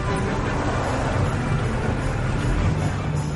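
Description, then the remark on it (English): A delivery truck's engine rumbles steadily as it drives its route, a constant low drone with road noise and no speech, the level holding even throughout without slowing to a stop. “Stop the truck!”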